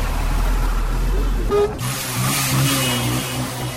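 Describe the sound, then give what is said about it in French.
Car horns honk in congested traffic of vehicles, motorbikes, rickshaws and pedestrians on the Pont Pékin-Neuf bridge at the southern exit of Bangui, on the road to Mbaïki. A low engine rumble gives way after a brief pause to sustained, buzzy horn tones that overlap and waver over the steady noise of the road. “Véhicules, motos, pousse-pousse et piétons s'entremêlent. Chacun veut s'arroger le privilège de passer avant l'autre.”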